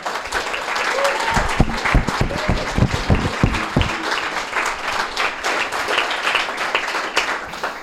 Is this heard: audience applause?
yes